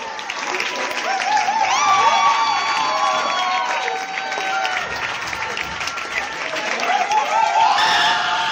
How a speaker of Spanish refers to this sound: El homenaje de decenas de estudiantes, yo casi diría que cientos, que despiden entre aplausos emocionados a su profesor de filosofía en su último día de trabajo.